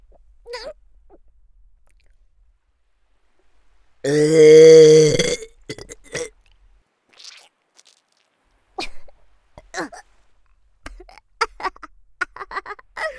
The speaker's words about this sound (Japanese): すっごい下品なゲップとゲップ顔、よく見ててね。